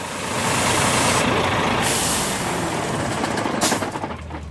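A heavy truck carrying live chickens in cages rumbles with a loud, steady engine drone, followed by a hiss of air brakes as it pulls up in front of a factory and settles. No one speaks.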